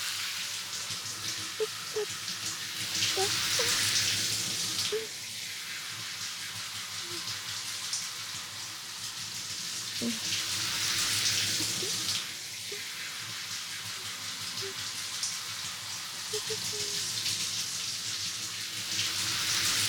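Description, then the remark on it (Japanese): A steady hiss of shower spray rinsing out the last shampoo from hair during a carbonated head spa, swelling louder in waves about every seven seconds as the water shifts, with faint splashes and drips underneath and no talking. “最後なのでしっかりシャワーしますね。”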